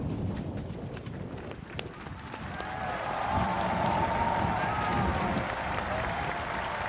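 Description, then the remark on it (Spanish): Sustained applause from a large crowd at the presidential swearing-in of Iván Duque in Colombia, a dense steady patter of many hands clapping that swells slightly partway through, with a faint tonal hum and scattered voices mixed underneath. “Están escuchando aplausos del momento en que va a jurar que será presidente, como hemos dicho, Iván Duque.”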